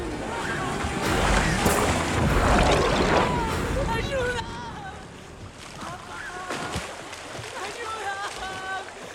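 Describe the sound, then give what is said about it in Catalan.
Someone thrashes in river water, with loud churning splashes for several seconds, then the splashing eases into quieter lapping while voices cry out and gasp. “En Leroy deixa anar la capsa de pesca i corre cap al riu. En Will s'agita a l'aigua.”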